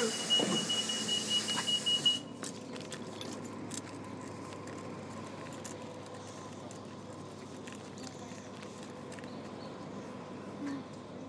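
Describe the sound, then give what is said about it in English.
Someone steps off the number 94 city bus in Edmonton: a couple of seconds of loud engine rumble and a steady high beep, then a quieter, even hum of outdoor traffic with scattered small clicks and taps. “So that was my getting off the bus, 94 in Edmonton”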